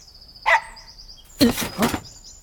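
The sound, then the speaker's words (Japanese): A dog barks twice, a short sharp yelp followed after a pause by a louder, broader bark, with faint high chirping birds in the background. “じゃあこの犬は？”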